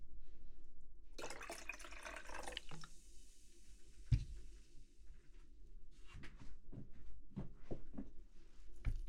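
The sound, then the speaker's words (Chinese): A sharp burst of hissing gas as sparkling water is made, like a soda maker carbonating water, followed by a clunk and then gentle pouring and dripping liquid with small clinks, with no talking. “做一点气泡水，你好像更喜欢喝这个。”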